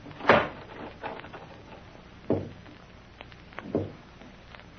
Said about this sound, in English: were you knocking at this door? How could I be knocking?